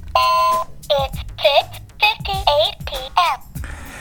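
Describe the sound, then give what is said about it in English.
A clock sound effect: a loud run of about seven bright, warbling electronic chirps in quick succession, with soft low thumps underneath, like a novelty alarm clock going off. “Let's take a look at the old clock here.”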